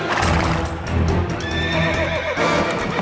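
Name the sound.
horses galloping and neighing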